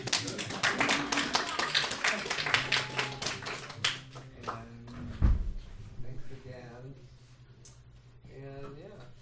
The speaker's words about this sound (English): I'm really excited. Clap.